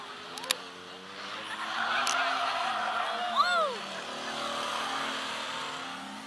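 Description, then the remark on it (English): Race car engines drone steadily around a track, with one car's whine rising and dropping sharply as it roars past, over a constant noisy background with voices faintly audible; the number 06 car leads along the back straightaway. “The 06 car is your lead car down along the back straightaway.”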